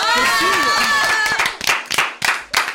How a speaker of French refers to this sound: Et enfin, attends, j'ai le droit des applaudissements et pas vous, hein, quand même.